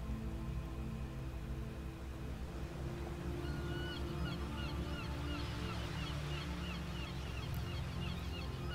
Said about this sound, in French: Le craquettement des cigognes installées sur le port nous parvient et se mêle à celui des goélands et des mouettes, lesquels caressent presque les vagues de leurs plumes tant ils volent bas.